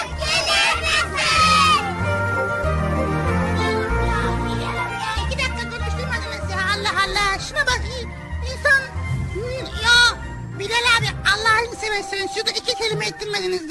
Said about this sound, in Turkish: Çocuklar biraz daha yüksek sesle bağıralım.